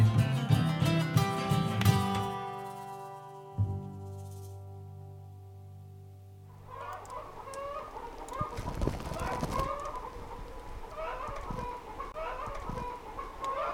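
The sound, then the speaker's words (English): A sustained musical tone fades out, then several chickens cluck repeatedly in a busy, overlapping chatter at moderate volume, with a brief louder burst of noise near the middle. “looking for where the chicken sounds are coming from”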